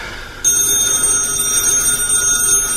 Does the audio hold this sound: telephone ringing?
yes